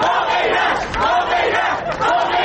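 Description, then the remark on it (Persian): A crowd of Iranian protesters in Rome, Italy, chants slogans in Italian in unison, loud and sustained, with rhythmic swells of many voices shouting together and no single speaker standing out. “در روم، پایتخت ایتالیا، تظاهرکنندگان ایرانی به زبان ایتالیایی شعار می‌دادند تا پیام آزادی خواهی هموطنانشان را به گوش سایر شهروندان این کشور برسانند.”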